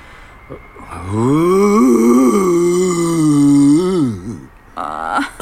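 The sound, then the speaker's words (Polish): A man imitates an elephant's roar with his voice in frosty weather, a long, strained, rising-and-falling bellow lasting about three seconds, loud, followed by a brief shorter vocal sound. “Może mi ryczenie nie wyjść tak od razu. Słonie ryczą w wyższej temperaturze.”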